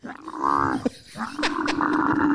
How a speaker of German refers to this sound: Ich zeig dir mal, wie ein Kamel klingt.